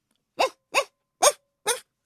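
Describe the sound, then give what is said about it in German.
A small white poodle running past barks four times in quick succession, short sharp yaps that are clear, with brief silent gaps between them and no other sounds. “Ein weißer Pudel läuft kläffend an ihm vorbei und wedelt mit dem Schwanz.”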